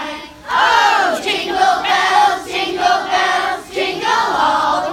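A large crowd of voices sings Jingle Bells together in loud, sustained unison phrases, with a brief dip between lines before the singing swells again.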